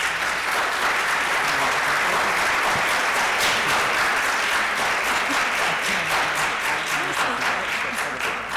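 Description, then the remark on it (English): An audience at a board meeting claps steadily for several seconds, a dense, continuous patter of many hands at fairly even loudness, with no voices standing out above it. “That really wasn't an applause line, but thanks.”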